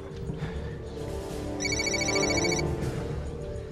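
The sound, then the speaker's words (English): A telephone rings once on an outgoing call being patched through, a bright warbling electronic ring lasting about a second, heard over a steady low background hum with no one speaking. “Hassan's making another phone call, I'm patching it to you.”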